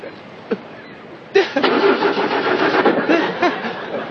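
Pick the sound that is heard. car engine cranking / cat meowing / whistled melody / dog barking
car engine cranking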